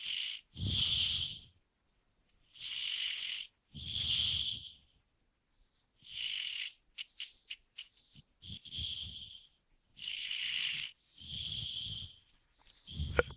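Someone asleep on a keyboard snores in a steady rhythm, about seven rasping, wheezy breaths with a raspy hiss over a low rumble, each roughly a second long and separated by short pauses, with a few faint clicks in between.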